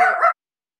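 dog barking

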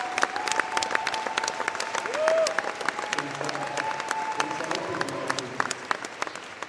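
applause

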